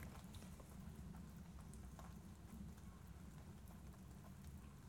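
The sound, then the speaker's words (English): Scattered water drops patter irregularly onto leaves over a steady low rumble, a soft, continuous after-rain dripping with no voices. “It's the remainder of the rain dripping through the leaves.”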